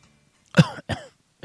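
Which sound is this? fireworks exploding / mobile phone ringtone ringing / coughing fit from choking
coughing fit from choking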